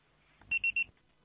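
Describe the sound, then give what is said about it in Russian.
A Russian phone network's voicemail beep tone, which plays after an automated message says the called subscriber is not answering. Three quick, loud, high-pitched electronic beeps sound in a steady rhythm, standing alone against a faint background hum. “Пожалуйста, попробуйте перезвонить позднее или оставьте сообщение после звукового сигнала.”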